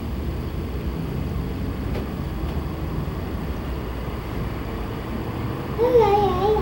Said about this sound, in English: What's that? Motorcycle, huh? Yep, that's what they say, is motorcycles. Lots of noise.